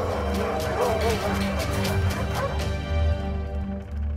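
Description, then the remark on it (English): A dog, Bouncy, one of the trained dogs from the film directed by Cornel Mundruszko, barks repeatedly in quick, yappy bursts, with a few whimpering yips mixed in over a busy, rumbling background. “If you've seen the movie, it's really hard to imagine these sweet dogs playing tough. Well, hi, Bouncy. You're such a silly. Hey, what are you talking about?”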